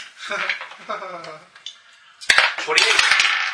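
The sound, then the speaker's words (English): Dice clatter across a hard table in a quick burst of sharp, rattling clicks that settle to a stop, following a few seconds of indistinct voices; the dice are rolled for a perception check. “I rolled a nat 20 on that check.”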